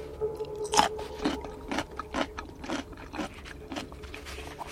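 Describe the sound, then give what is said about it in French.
Crisp crunching as someone bites into and chews a crunchy fermented vegetable taken from a jar, with a series of sharp bites at a steady rhythm and no talking. “Et j'espère que ça reste encore croquant, je vais voir.”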